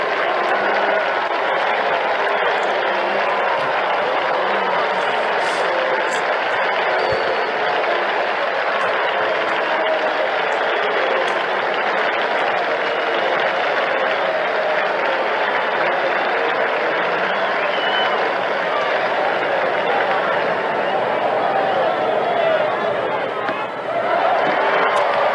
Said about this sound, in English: With one out and one on, the applause will be for Mickey Mantle.